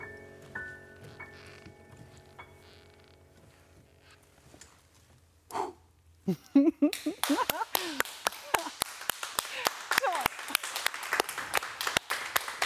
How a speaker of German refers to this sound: Es gibt Leute, die klatschen hier, natürlich, weil alle begeistert sind.